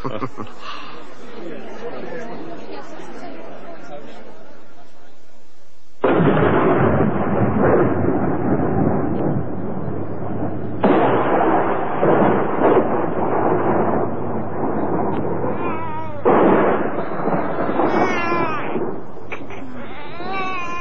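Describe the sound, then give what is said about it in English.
Faint murmuring voices give way to a sudden loud thunderclap, followed by long rolling rumbles of a thunderstorm that swell again in several heavy bursts. “The storm must have woken him.”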